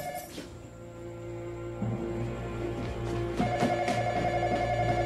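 A telephone rings steadily in Malkovich's ransacked house with a bright, warbling electronic tone, moderately loud, layered over a low sustained hum that swells slightly toward the end. No one speaks.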